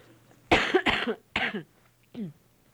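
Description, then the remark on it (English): A short fit of coughing: three harsh, rapid coughs followed by a softer, throaty final one, against a faint low hum. “I'm gonna cough.”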